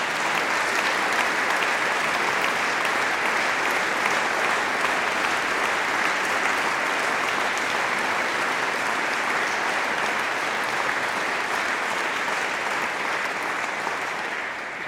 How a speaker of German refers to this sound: Nochmal herzlichen Applaus